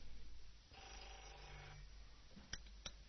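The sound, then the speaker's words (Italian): A telephone rings once in a faint, buzzy burst lasting about a second, followed by quiet and two sharp clicks like a handset being picked up. “Mi sembra che c'è una telefonata, vediamo un po' chi c'è.”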